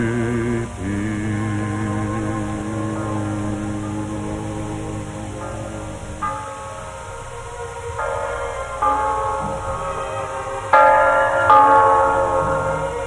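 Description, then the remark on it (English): Church bells of Christmas 1945 ring steadily, their overlapping tolls humming and sustaining as fresh strikes land every second or two, building to louder, brighter peals near the end. No one speaks. “The bells of Christmas 1945 ring out clear and free around the world to you.”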